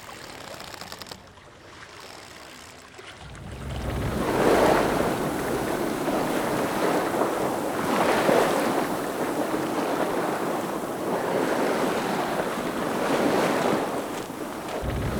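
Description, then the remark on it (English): Sea waves surge and break against rocky outcrops at Mangiabarche in steady swells every few seconds, each crash rising over a constant wash of water and blustery wind. No voices are heard. “It refers to the many boats that sank in this stretch of sea and to the various rocky outcrops that recall the teeth of a sea monster in popular legends.”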